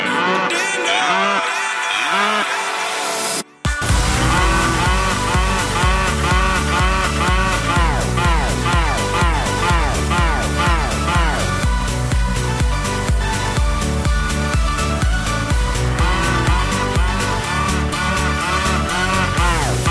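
Loud, dense disco track with a steady thumping beat and guitars, while long swooping moo-like calls glide up and down over the music again and again.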